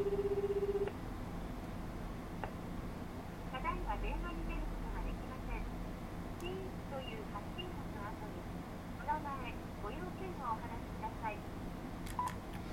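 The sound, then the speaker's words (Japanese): A telephone ringback tone, heard while calling a phone that plays no ringtone or vibration, sounds once, a steady low beep lasting about a second at the start, followed by a long stretch of hissy background noise with faint, muffled voices. “電話は呼び出し続けています。”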